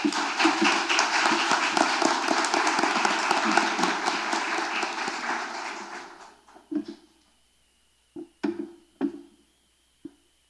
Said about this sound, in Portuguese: Uma salva de palmas.